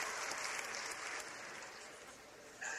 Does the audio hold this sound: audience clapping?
yes